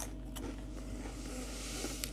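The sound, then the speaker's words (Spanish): Quiet chewing of a tomato at home around 11 at night, with a few soft wet crunches and squelches spaced irregularly over a low steady background hum. No one speaks. “No se asusten por los ruidos, porque ahora todo el ser humano le molesta, porque estoy masticando un tomate.”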